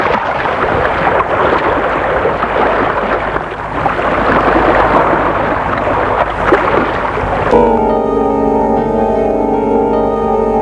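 A sailboat on a summer cruise to the Antilles glides over calm sea in warm weather, a steady wash of water and breeze filling the scene for several seconds before sustained tonal music takes over near the end. No one speaks.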